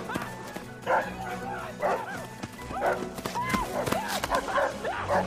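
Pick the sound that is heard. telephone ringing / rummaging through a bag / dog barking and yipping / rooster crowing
dog barking and yipping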